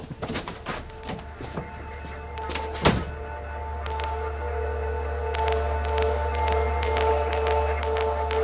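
A door is pushed shut with a solid thunk after a few lighter knocks and clicks, followed by a steady low hum with faint scattered ticks.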